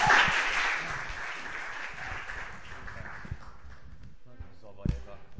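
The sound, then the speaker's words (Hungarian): A burst of audience applause for a speaker invited to give a talk fades into scattered clapping, with a few sharper thuds near the end and voices murmuring underneath. “Taps, mert akkor nagyon meg kell felelni valaminek, és az mindig nagyon nehéz.”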